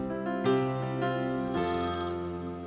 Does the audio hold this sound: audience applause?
no